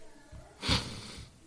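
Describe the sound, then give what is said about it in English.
A single sneeze bursts out briefly, a sharp, breathy blast of noise that fades quickly into a faint low background murmur. “Bless you.”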